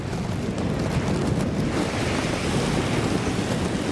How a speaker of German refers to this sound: Wellen prallen auf ein Riff und spritzen durch unterschiedlich große Löcher im Vulkangestein wieder hinaus. Die Blowholes im Königreich Tonga gehören zu den Touristenattraktionen auf der Hauptinsel.